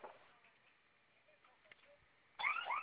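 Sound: security alarm sounding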